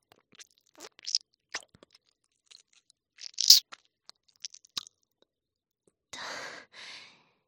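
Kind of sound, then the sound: human body sound, wet chewing mouth sounds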